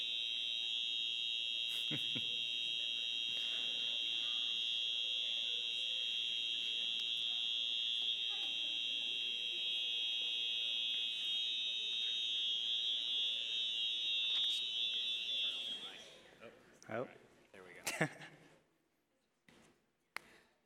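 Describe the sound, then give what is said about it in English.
A building fire alarm blares a loud, continuous high-pitched tone for about sixteen seconds, then cuts off abruptly, leaving a few scattered knocks and clatters in near silence. “So we'll figure out really quickly if we need to leave or if that's a false alarm.”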